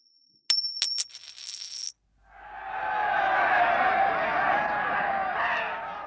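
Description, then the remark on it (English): Two penny coins tossed in a game of two-up on Anzac Day clink and ring metallically in a quick burst of several bright chimes, then fall silent before a crowd's steady murmur and cheering swells in and holds to the end. “Two-up, of course, is a gambling game that involves tossing two penny coins, ideally ones from 1915, in the air and betting on how they'll land.”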